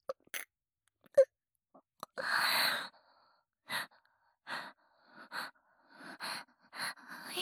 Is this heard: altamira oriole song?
no